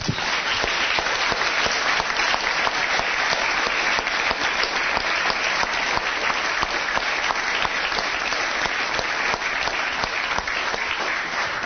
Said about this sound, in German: Applaus